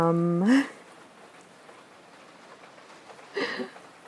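Heavy rain falls steadily outside, a continuous soft hiss filling the background, with a brief voiced sound at the start and a short rustling burst near the end.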